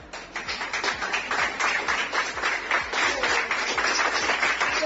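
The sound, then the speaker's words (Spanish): Sustained applause from a group, many hands clapping in a dense, steady wash with individual claps standing out, continuous throughout; a tribute by the UCCIC team of the Guardia Civil in Castellón to a colleague returning to service in the unit. “Y es un aplauso.”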